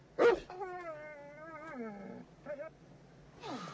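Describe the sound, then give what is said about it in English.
A dog whimpers in a long, wavering, high-pitched whine that slides downward. A brief yip follows, then another rising whimper near the end. It sounds quiet, with no talking. “Let me talk to him. Woof, woof, woof, woof.”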